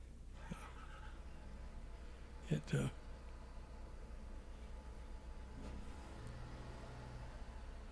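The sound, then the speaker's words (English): A car engine runs with a low, steady rumble throughout, broken by a couple of brief knocks near the middle as it seems to rev slightly. “Somebody started the house up.”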